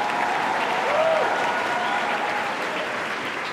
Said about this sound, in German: Der Applaus aus der Aula zeugt von einem glücklichen Ende der Schulzeit für die meisten.